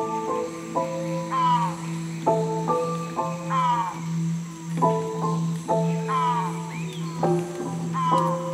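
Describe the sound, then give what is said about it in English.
A turquoise-browed motmot (guardabarranco), Nicaragua's national bird, gives a series of harsh, nasal, croaking calls, about seven in irregular succession, each buzzy and slightly falling, over a steady low hum. “The guardabarranco is threatened by loss of habitat, primarily due to deforestation.”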